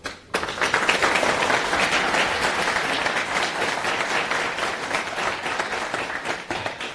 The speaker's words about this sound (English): So give him a hand.